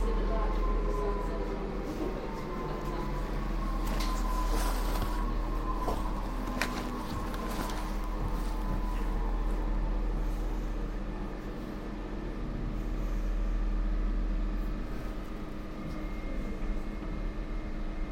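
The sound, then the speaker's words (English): A steady low rumble fills the cabin of a moving passenger train at Cutty Sark, with a faint whining tone that drifts in pitch and occasional rattles, continuous throughout. “This is Cutty Sark. To alight, please move towards the centre of the train.”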